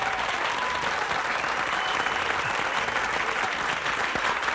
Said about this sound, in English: That's a lot of applause. Wow. Studio audience.